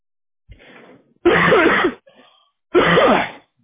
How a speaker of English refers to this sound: It's been like 2 weeks of this cough.